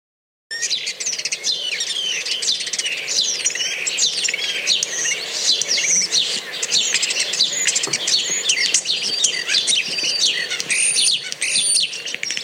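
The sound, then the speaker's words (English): A starling warbles continuously, a busy jumble of whistles, chirps and rattling clicks with no pauses, all bird song and no voices. “Bird of the week this week is a starling.”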